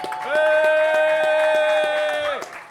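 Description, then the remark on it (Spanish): Audience applause at a journalism event in Toronto, for the event's founder, with rhythmic, fairly loud claps, heard beneath a steady, high-pitched sustained tone that holds for about two seconds before cutting off. “También un aplauso a Raquel que nos acompaña el día de hoy, hombre, nuestra fundadora de la Raquel.”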